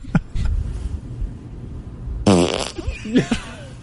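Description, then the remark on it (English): A loud recorded fart from April 22 bursts out with a buzzy, rippling tone, followed by a couple of shorter sputters and a small high squeak near the end, over low background rumble. “Just a little squeak at the end.”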